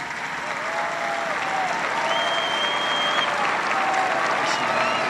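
A large audience of young people applauds steadily for several seconds, a dense, loud wash of clapping with faint whistles rising above it and a murmur of crowd voices underneath.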